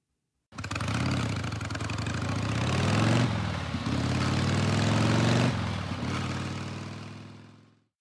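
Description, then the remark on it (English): A car engine, turned on by Tiger, bursts into life and keeps running with a loud, steady roar, its pitch shifting a couple of times as it revs, before cutting off abruptly. No one speaks. “Tiger has turned the car on.”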